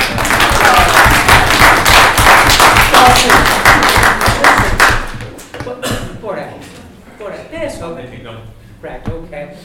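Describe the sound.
A loud, dense burst of audience clapping lasts about five seconds, then breaks off as people begin talking over a few scattered claps.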